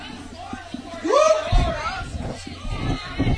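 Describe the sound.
A baseball stadium crowd yells and murmurs in a steady, fairly loud wash of voices, yelling for the scoreboard to change after a run scores for the Bears, with one rising shout or whistle briefly piercing through near the start.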